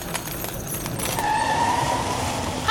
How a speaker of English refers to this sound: We forced it to stop. Mind you, this is a real, lovely, top-of-the-range electric car.